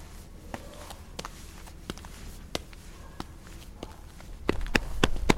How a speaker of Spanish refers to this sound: ¿Dónde vas corriendo? A la luminaria, todos los compis están allí.